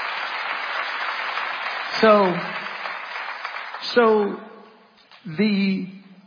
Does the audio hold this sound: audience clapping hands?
yes